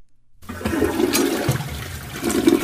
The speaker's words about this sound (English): All right. Flush it.